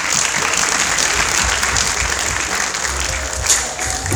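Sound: audience applause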